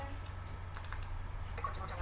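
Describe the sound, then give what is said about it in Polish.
Quick clicks of typing a name on a small computer keyboard, two short bursts of keystrokes at a moderate level over a steady low hum, with no voices. “Także o ten dźwięk mi chodziło,”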